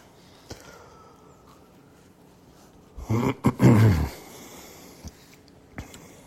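A dog growls briefly in a couple of rough, low bursts midway through, moderately loud, with near silence and a few faint clicks before and after.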